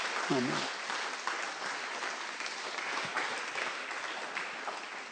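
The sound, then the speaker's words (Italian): An audience applauds the Lord steadily for several seconds to give glory, a dense, even wash of many hands clapping that fills the room, with a brief voiced exclamation near the start. “Facciamo un applauso al Signore, diamo gloria.”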